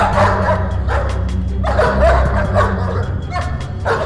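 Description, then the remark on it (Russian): A pack of large dogs barks in a loud, overlapping clamor, deep woofs tumbling over one another in irregular bursts above a steady low rumble, with no one speaking. “Из-под могучих копыт необыкновенного коня летели сверкающие искры, а вслед за страшным охотником неслась стая громадных псов.”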